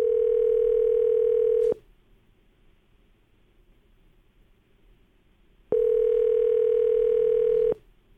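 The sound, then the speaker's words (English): Ringback tone of an outgoing phone call placed from a radio studio to a man's phone number: two steady, buzzy rings of about two seconds each, separated by a long pause of faint line hiss. No one speaks. “It's a ringing.”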